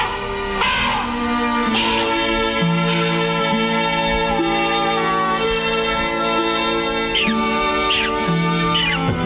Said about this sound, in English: You're funny little fellows. Oh, what a face and a grin. I shall call you Monkey.